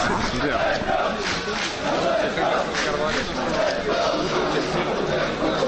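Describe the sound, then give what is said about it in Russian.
Spartak Moscow football fans chant in a stadium the phrase "Gazaev pyos" ("Gazaev is a dog"), aimed at CSKA coach Gazaev: a dense roar of many voices shouting in steady rhythmic bursts, loud and unbroken for the whole stretch. “Разумеется, Титов с иронией апеллирует к спартаковской торсиде, не менее некорректной фразой «Газаев пес», выражающей свое отношение к тренеру ЦСКА.”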